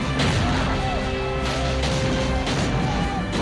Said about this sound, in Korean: 프랑스군은 원주민들과 합세해서 요새를 포위하고 대포를 써서 맹렬하게 공격을 하고 있었다.